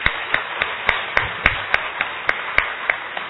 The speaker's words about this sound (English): And let's give him a hand and welcome him this morning.